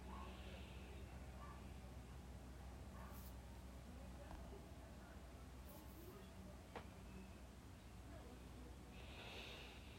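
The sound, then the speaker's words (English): Slow, deep breaths drawn in and out through the nose while stretching the back with fingers clasped and palms pushed outward, a few soft airy swells over a steady low hiss, quiet. “And breathing.”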